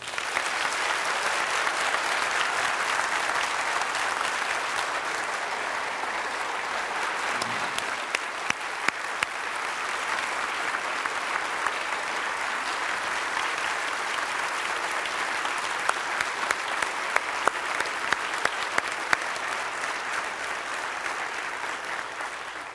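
A church audience applauds steadily for over twenty seconds to honor their pastor as a spiritual leader, a dense, even wash of many hands clapping with no pauses and no speech over it.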